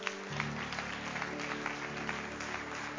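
An audience applauds for "our King" steadily, dense rapid clapping filling the whole stretch at an even level, with a low sustained hum of music underneath.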